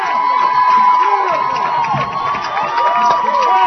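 A large college football stadium crowd in Chapel Hill, on its feet, roars and cheers continuously as Aaron Hirsch runs up the sideline after a catch, a dense wall of voices and whoops that stays loud and sustained throughout, with no single voice standing out.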